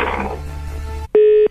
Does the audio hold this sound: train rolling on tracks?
no